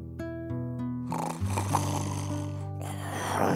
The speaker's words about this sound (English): When they came to the meadow, there lay the wolf by the tree, snoring so loudly that the branches shook.